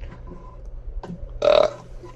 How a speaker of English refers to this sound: There's the burp for every episode. Wow. That one was like really, really impressive. It's not as loud as usual. I'm thinking maybe around a 5.5.